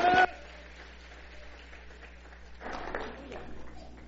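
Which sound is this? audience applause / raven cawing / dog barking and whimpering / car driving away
audience applause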